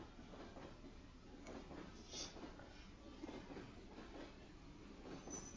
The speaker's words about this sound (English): There are a lot of open seats on the train, but none of them next to a cute guy like you.